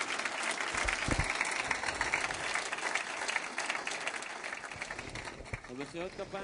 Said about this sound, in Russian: Эти аплодисменты нашим товарищам. Вы были сегодня замечательными актерами.